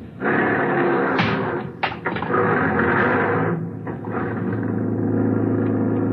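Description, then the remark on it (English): A taxi door thumps shut, then a steady engine rumble builds and carries on as the taxi pulls away into heavy evening traffic, with a low droning hum of traffic underneath. “Outside, I hailed a taxi. This time, I was lucky. I got one.”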